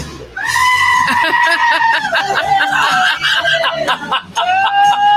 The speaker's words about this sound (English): All right. The goat remix. Goat remix. Goat remix. These are the five greatest goat remixes ever.